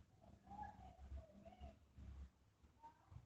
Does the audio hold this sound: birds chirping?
yes